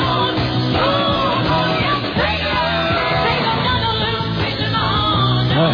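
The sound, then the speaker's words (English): A singer belts out a raw, raspy rock scream over a loud, dense full-band backing, sustained and strained across several seconds with no speech. “Counting down the top five rock and roll screams of all time.”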